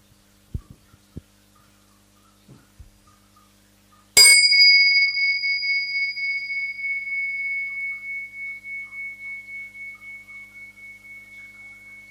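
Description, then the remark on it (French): After a few soft taps and thumps, a meditation bell is struck once to invite a moment of shared listening at a gathering, and rings out alone, its bright tone pulsing gently with a slow wavering beat as it sustains and fades over several seconds. “Voilà, donc avant d'aller plus loin, je vais faire sonner cette cloche pour nous inviter à un moment d'écoute partagée, de présence partagée.”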